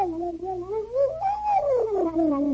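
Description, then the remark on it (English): A voice imitates a whistling bullet ricochet: one sustained, wavering tone that climbs slightly, then slides downward in pitch over a couple of seconds, fairly loud and on its own. “because about every 30 seconds you'd hear one of the ricochets would go whistling off into the distance, you see,”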